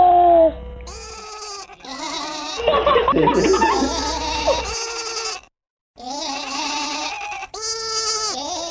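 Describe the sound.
A voice imitates a sheep, giving a string of wavering, nasal bleats, broken by a burst of giggly, breathy sound in the middle and a brief pause before more bleats.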